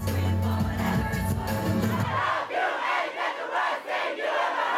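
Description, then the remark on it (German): A themed party of a few hundred fans at the FZW club in Dortmund, Germany: loud, bass-heavy pop music for about two seconds, then it cuts out and hundreds of voices keep shouting and singing together in a continuous roar. “So klingt es, wenn ein paar hundert … zusammen in einem Raum Party machen.”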